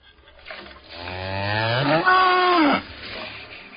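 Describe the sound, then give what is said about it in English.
A single long, loud cow moo rising in pitch and then holding steady before cutting off, with no talking. “Oh, and a milking stool. And a cow to go with it.”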